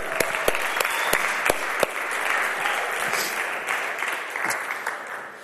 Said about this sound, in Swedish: Tack så ni har lovsångare. Jag tycker ni ska ge dem en applåd.